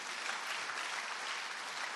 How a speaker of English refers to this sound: But our Father loves us. Can you clap your hands for your Father in heaven?